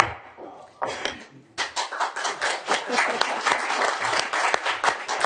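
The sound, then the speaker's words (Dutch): Sustained applause from council members at a municipal council meeting in Tubbergen, after a vote appointing a new member, starting with a few scattered claps and then swelling into steady, dense clapping that continues to the end. “Niet aanwezig zijn en applaus krijgen is wel bijzonder, hè?”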